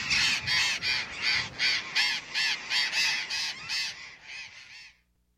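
A flock of birds on the move, leaving the roost just before sunrise to forage over the countryside, gives raucous, overlapping calls, about a dozen harsh honking caws in a steady rhythm, loud and bright, with no talking, then the calls stop abruptly.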